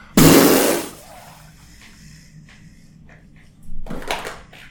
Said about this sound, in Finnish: Oho, tuli Pieru.